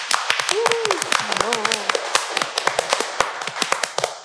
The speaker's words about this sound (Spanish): Listo, un aplauso.